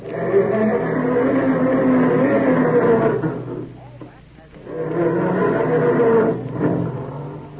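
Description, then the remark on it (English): A voice imitates a family car's engine cranking slowly in the morning and struggling to start: two long, low, groaning bursts with a short pause between them, the second trailing off in sputters. “Or does your car sound more like this when Dad goes to start it up in the morning?”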